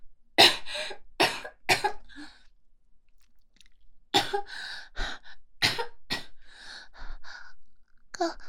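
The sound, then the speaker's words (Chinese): A harsh, uncontrollable coughing fit: three quick coughs, a brief pause, then several more clusters of raspy, breathy coughs that keep breaking out in uneven bursts. “控制不住咳嗽。”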